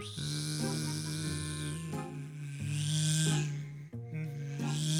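A voice imitates the whine of a mosquito flying around someone trying to sleep: a steady, nasal buzzing drone held for several seconds, wavering slightly in pitch with a few brief breaks, and no other talk.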